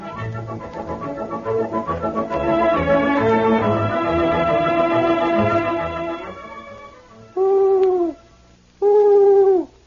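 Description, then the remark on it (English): Two loud, drawn-out owl hoots ring out one after another near the end. Before them, a busy musical passage fades away. No one speaks. “Say, the owl is a wise old bird.”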